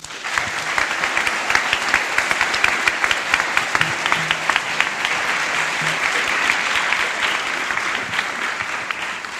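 An evening audience applauds loudly and steadily to welcome a speaker, a dense wash of many hands clapping without pause for several seconds, with no talking over it.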